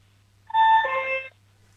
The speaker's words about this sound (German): Und jetzt will ich gerne noch die Türklingel hören.